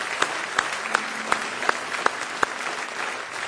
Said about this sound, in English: Give him one big hand clap of praise if you love him this morning with all your heart.